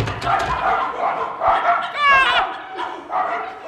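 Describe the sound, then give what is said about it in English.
A pack of 40 long-haired sheepdogs barks and yaps in a noisy overlapping chorus, with a few sharper yelps cutting through the clamor. “40 long-haired sheepdogs. Which one is he on?”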